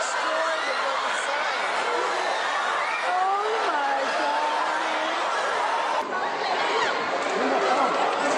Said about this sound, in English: Crowds, masses. Now they're packed outside of a retail store. They're pressing in, pressing in, pressing in.